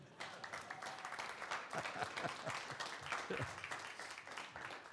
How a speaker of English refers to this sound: Now, in my marriage, almost 60 years now, come January. 60 years. Now, you should clap at that point for my wife.